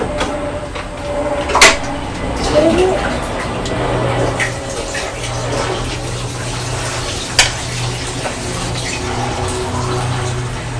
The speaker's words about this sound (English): Gosh, that's a very loud aeroplane, isn't it?